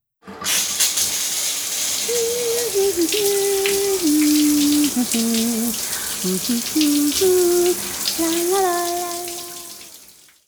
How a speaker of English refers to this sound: She takes a shower.